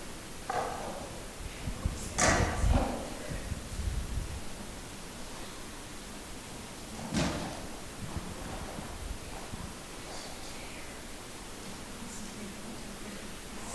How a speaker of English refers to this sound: So I'm going to move 4 chairs.